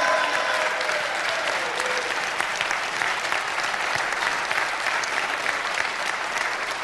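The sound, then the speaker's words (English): An audience applauds Governor Doyle during his state budget address after he proposes asking oil companies to pay more, dense clapping at an even loudness that holds throughout without fading, no voices standing out above it. “Applause. He's big oil, bashing big oil.”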